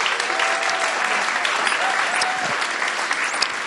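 A church audience applauds a married couple steadily, a dense wash of many hands clapping at an even, sustained loudness throughout, with faint voices mixed in beneath the clapping.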